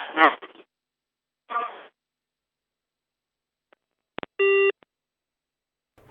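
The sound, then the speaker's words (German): A couple of brief, muffled bits of talk, then a silence broken by two sharp clicks and a single short, steady electronic busy-tone beep as the phone line cuts off. “Oh, da ist die Telefonverbindung abgebrochen.”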